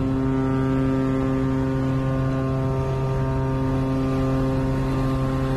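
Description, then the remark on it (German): Steady, loud engine drone of a boat under way across Sydney Harbour, Australia, a deep continuous hum with tonal harmonics and low rumble, unchanging throughout with no voices. “Und auf dem Boot, da haben wir dann auch gleich nochmal eine richtig schöne Strecke vor uns.”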